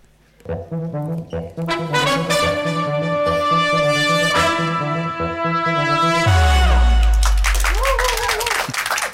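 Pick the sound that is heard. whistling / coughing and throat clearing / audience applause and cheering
audience applause and cheering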